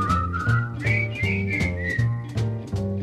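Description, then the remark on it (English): A toy whistle shaped like the Wienermobile hot-dog vehicle is blown in long, shrill tones that step up in pitch partway through, over a steady, rhythmic musical backing with no talking. “It's a whistle in the shape of the Wienermobile, and it's been around for years and years and years.”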